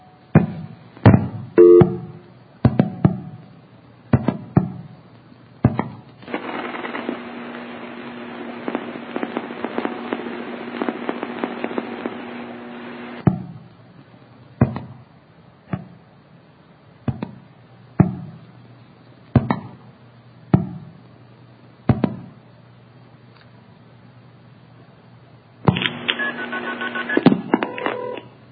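Sharp clicks and bangs of old telephone exchange switching gear during a normal pulse-dialed call, with stretches of steady tone and a burst of short multi-frequency beeps near the end (KP, 9999, start), no talking, heard clearly down a phone line.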